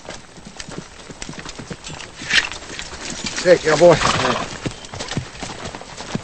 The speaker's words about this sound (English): Now Charlie rides up to Zach at the unfinished fence.